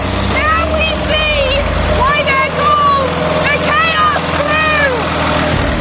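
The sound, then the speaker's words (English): The engine of the Muncher, being thrashed by its team, roars loudly and steadily, its pitch surging up and down in repeated revs over a deep, continuous rumble. “It needs a non-stop water supply now, and they're thrashing that engine.”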